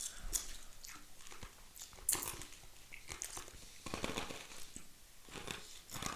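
Loud crunching of hard, glass-like candy being bitten, with sharp irregular cracks and grinding bursts repeating over several seconds, no talking.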